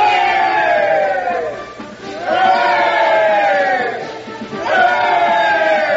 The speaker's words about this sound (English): Hey there! Look at the dandy mechanics! Give them three cheers, boys! Three cheers for the dandy mechanics!